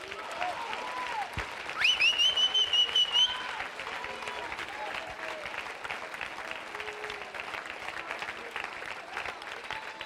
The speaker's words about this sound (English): Look, could we get a hand clap right now?